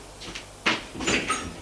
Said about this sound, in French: Alors, il appuie sur le bouton pour ouvrir la porte.